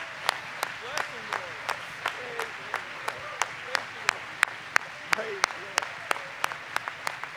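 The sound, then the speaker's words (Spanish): A church audience applauds and rises to its feet, clapping together in a steady, even rhythm, sharp unison claps repeating about three times a second over a low murmur of crowd voices. “La congregación aplaude y se pone de pie.”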